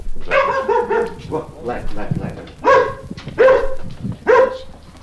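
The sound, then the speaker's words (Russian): A dog barks repeatedly at visitors, giving about five or six loud, tonal barks in uneven bursts, with a person's voice audible faintly between them. “Эта собака встречает всегда всех посетителей вот этим приветливым голосом.”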